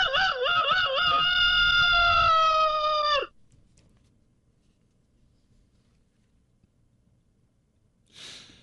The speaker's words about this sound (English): to go to break, you hear a rooster.